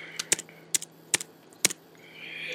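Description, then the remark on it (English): A few crisp computer keyboard clicks tap out in irregular bursts over a low steady hum, then give way to a soft rising electronic whine. “We're getting a typing from Blake.”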